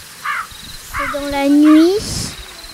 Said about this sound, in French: Ça se passe dans une forêt avec des chouettes et des hiboux. Et puis, ils sont en train de chanter. Je crois que c'est dans la nuit.